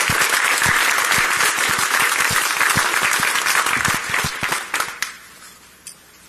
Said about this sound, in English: So we'll all give them a round of applause ourselves because they were great to work with.